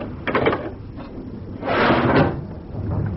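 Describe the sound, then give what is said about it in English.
A heavy watertight door into an engine room is hauled open: a short clunk, then a louder, drawn-out grinding scrape lasting about a second before it settles, with no talking. “Can we risk opening the watertight door? I'll have to chance it.”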